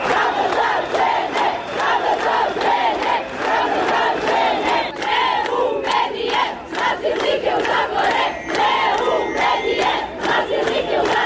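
A crowd of women shouts together at a protest in Belgrade, Serbia, in front of a tabloid's offices, voices loud and continuous with rhythmic bursts of chanting and cries throughout, dense and sustained without pause.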